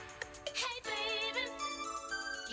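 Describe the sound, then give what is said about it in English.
A bright, ringing bell-like synthesizer keyboard plays a shimmering melodic phrase, with chiming notes layered over sustained tones, fairly loud, with no voices. “There's that ringing bell-like synthesizer sound again.”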